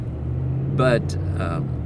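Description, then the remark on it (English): A car's transmission shifts gears hard while driving, heard from inside: a steady low engine drone, a brief sharp clunk near the middle, and short bursts of voice over the hum. “It shifted a little hard there.”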